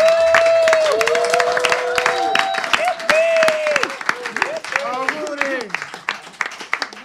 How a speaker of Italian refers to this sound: Un applauso.